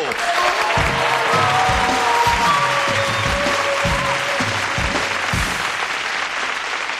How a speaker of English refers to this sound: And for that, we can bring out a very special guest, and I expect a big Tool Time round of applause for Robert, the Human Hatchet Cho!